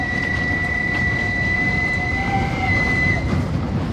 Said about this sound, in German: Am 25. April 1945 fährt nachts ein Zug in den Bahnhof Garmisch-Partenkirchen ein. Zwei Tage zuvor verließ er das Konzentrationslager Dachau mit mehr als 1700 jüdischen KZ-Häftlingen.